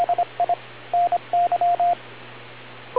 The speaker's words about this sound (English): After the beep, tell us.